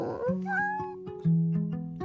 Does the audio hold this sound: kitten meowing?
yes